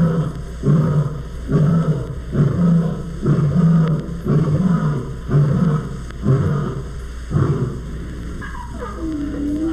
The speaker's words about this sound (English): After feeding, lions sometimes enjoy a roaring session. At the end of this series of roars, a sharp ear can pick up the squeaky little roars of 2 new cubs as they try to imitate their parents. Listen.